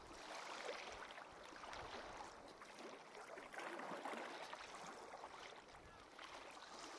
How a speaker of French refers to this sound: Les bateaux à moteur pour circuler entre les îles face au village, les quatre roues, les motoneiges, les hélicoptères et les avions font partie du paysage sonore de Tête à la Baleine. Leur bruit devient presque un bruit blanc, présent à toute heure